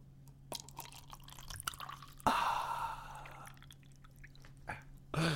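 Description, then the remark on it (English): A drink is poured in front of a microphone in one burst of gurgling, splashing liquid lasting about a second, with faint drips and small clicks before it and a soft thump at the end. Nobody speaks. “Pour that into the microphone there.”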